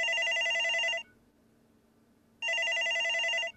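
A telephone rings twice, each ring a bright, steady electronic trill lasting about a second, separated by a short quiet gap. The ringing is clear, with no voices.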